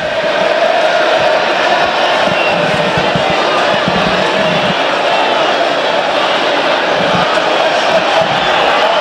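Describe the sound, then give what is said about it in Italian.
A dense, steady stadium crowd roar fills the whole stretch, with shrill massed whistling of protest running through it at a constant, loud level and no clear breaks. The fans whistle while Davidovic takes a long time over a throw-in during a Hellas Verona versus Parma football match. “Davidovic impiega molto tempo a battere questa rimessa, motivo dei fischi che sentite forse in sottofondo.”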